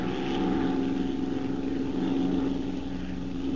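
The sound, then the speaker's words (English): The propeller engine of Bryce's plane, flying overhead amid smoke, drones steadily and evenly throughout, a continuous buzzing hum with a strong low tone that holds constant in loudness, with no voices present. “Hey, there's Bryce's plane now.”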